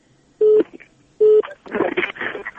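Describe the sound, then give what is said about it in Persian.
Two short, steady telephone keypad tones sound in quick succession, loud and evenly pitched, followed by a burst of muffled, noisy talk over a phone line as a listener's call is connected on a radio call-in program. “بله، شماره تلفون یک بار برشان میگیم، بخیلم که وصل همشتن یک چند نفر.”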